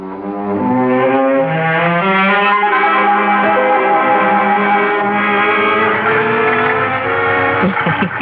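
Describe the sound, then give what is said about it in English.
An old car is driven to town, its engine droning loudly and steadily, the pitch climbing and then dropping as the gears shift, continuing for several seconds with no talking. “You are having so much trouble with Dad's old car. I can't get used to the way these gears shift.”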